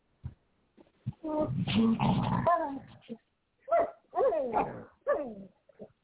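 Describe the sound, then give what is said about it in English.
A dog whimpers and whines in several drawn-out, high, wavering cries with sliding pitch, a few turning into rough yelps, fairly loud with short pauses between. “That's her dog.”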